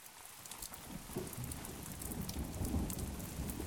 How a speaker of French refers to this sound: donc pour moi, maintenant, tous les sons, ces sons qui me souviennent de mon enfance, surtout les sons de pluie, quand il pleut.